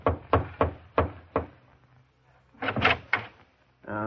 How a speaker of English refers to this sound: He'd go around timidly knocking at doors.